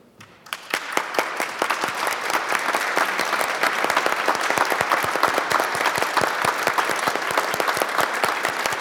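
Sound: applause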